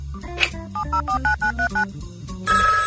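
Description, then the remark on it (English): A rapid series of touch-tone dialing beeps plays over a low background hum as a prank phone call is placed, followed by a telephone line beginning to ring at the end. No one speaks. “Hey, you want to make a prank phone call?”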